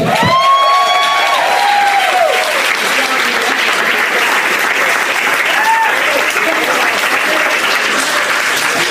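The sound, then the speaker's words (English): A show audience bursts into sustained, dense applause with whoops and cheers rising over the clapping in the first couple of seconds, then steady loud clapping continues throughout. “Give it up for Bradley.”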